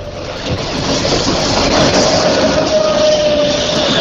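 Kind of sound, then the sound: vehicle, train passing by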